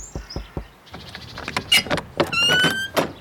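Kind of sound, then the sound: household object, knocking on a door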